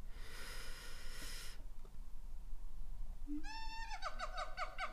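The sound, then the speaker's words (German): A monkey calls in a rapid run of about six short, shrill, tonal whoops that rise and fall, following a brief rush of hissing noise at the start. No one speaks. “Das war ein Affe?”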